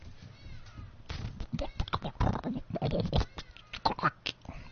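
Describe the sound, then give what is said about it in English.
In a sound-imitation game, a voice imitates a hungry stomach's rumbling with a string of growly, gurgling bursts of uneven rhythm, lasting several seconds without any words. “That's my tummy rambling.”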